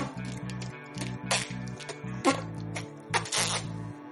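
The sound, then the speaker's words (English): A voice imitates a lobster farting: a rapid series of short, buzzy lip-sputter pulses, fairly loud, with occasional hissy bursts breaking through the rhythmic rattle. “And I think a lobster, too, is like this.”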